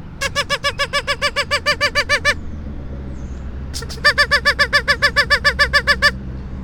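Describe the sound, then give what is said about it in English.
A duck call quacks in two rapid, evenly paced runs of about a dozen nasal, buzzy quacks each, separated by a short pause, over a steady low rumble. “On the off chance you're in my vicinity, you can hear my duck call in the grocery store.”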